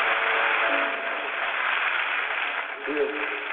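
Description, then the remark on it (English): An audience applauds in a dense, continuous wash of clapping that holds steady for several seconds, with a few voices briefly rising through the noise near the end. “Round of applause. Come on, let's give him a praise.”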